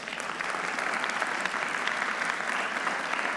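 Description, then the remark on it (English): A church audience claps steadily throughout in response to a preacher's point about the gospel, a dense, sustained wash of many hands with no pauses or voices standing out. “Now, I appreciate you clapping for that because that is true.”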